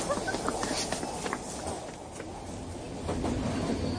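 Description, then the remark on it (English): A train rumbles steadily along the rails, a continuous low-pitched roar with faint rhythmic clicks and rattles, heard from inside the carriage at moderate loudness with no voices. “You think this train is full?”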